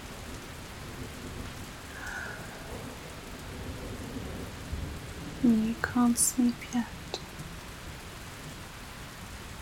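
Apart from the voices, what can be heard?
thunderstorm with heavy rain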